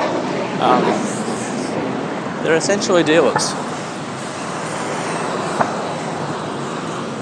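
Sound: fighter jet flying overhead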